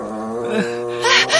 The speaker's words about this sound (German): Da! Hörst du das? Dieses Geräusch! Das Ungeheuer knurrt uns an! Es will uns angreifen! Los, abhauen!